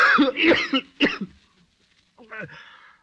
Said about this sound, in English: Why does that blasted cough? What does it?